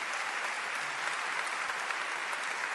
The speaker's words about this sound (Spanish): ¡El aplauso fuertísimo para ellos!